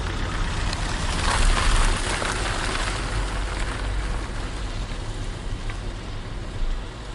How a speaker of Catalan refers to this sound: Quan deixàrem enrere el darrer senyal de zona restringida de l'exèrcit, la tempesta va afluixar. La pluja semblava més calmada, com si el pitjor de la nit hagués quedat enrere, sobre les pedres sagnants de Calafiguera.